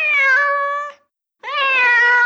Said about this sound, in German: Beim nächsten Raum sehen sie Vögel und kleine Tiere. Mäuse. Enten. Katzen.